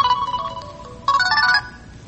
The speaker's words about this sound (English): I thought I had my phone on silent.